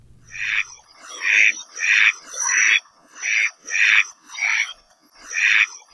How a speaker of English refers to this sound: Professor Patrick Hart introduces us to the Kaloa Maoli, or Hawaiian duck